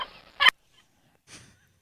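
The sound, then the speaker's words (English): Turkey gobbling: a rapid, rattling burst that swells to a loud, harsh peak, then a brief pause and a softer, shorter gobble. No one speaks. “That lady has these dogs that run to her house when I play the turkey sounds.”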